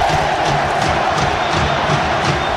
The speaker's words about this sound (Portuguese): Temos os gritos da torcida aí, ó. Tá pegando o bicho.